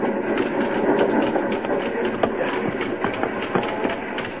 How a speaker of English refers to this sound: Little train jumping, rocking over the uneven rails.